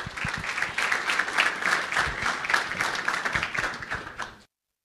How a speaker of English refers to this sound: why don't you give him a round of applause to do the official welcome.